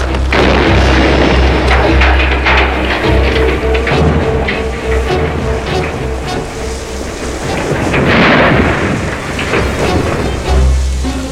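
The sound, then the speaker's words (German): A dynamite explosion, Thurgood's dynamite kept in the shed going off after the barn catches fire, roars into a long, deep rumble with crackling, debris-like noise that swells again near the end, staying loud throughout with no voices. “Ach, ich hätte mir denken können, dass Thurgood sein Dynamit im Schuppen aufbewahrt.”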